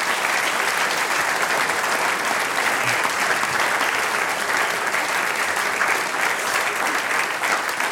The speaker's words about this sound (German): jetzt einmal kriegst du noch einen großen Applaus und ich hole dir dabei was.